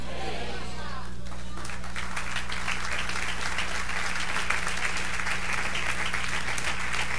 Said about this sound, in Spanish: Dale un aplauso. Ponte en pie, apláudale.